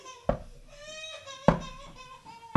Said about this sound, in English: Yes, that's him knocking on the door that wants to come in.